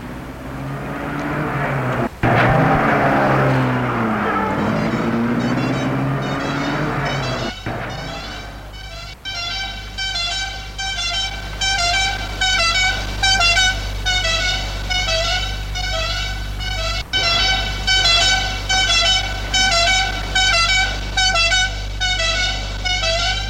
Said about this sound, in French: Le policier lui dit, on vous mène déjà en voiture, et pas dans un fourgon cellulaire.